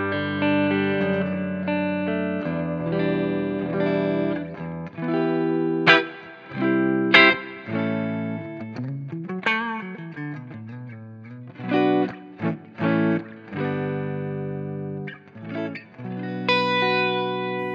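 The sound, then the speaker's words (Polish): An electric guitar plays alone through an amp with the presence knob turned down and channel volume between 0 and 1, giving a somewhat softened, less bright top end: sustained chords, picked single notes and a few bent notes, moderately loud. “Okej, no to robi robotę, czyli skręcanie presence w gitarze.”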